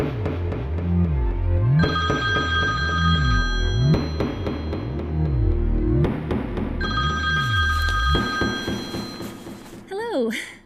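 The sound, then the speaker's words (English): A telephone rings with an evening call from a boss, in repeated bright, bell-like bursts roughly every two seconds over a low, pulsing musical drone, ending with a brief wavering, warbling tone. “I know your boss calls you up like this in the evening, out of nowhere.”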